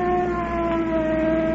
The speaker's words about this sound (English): Look at that car coming up here. Looks like a cop in it.